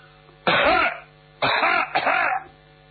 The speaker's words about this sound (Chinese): 许世友一想，现在还不是时候，他坐到心里头有数，在外头使劲的咳嗽了两声。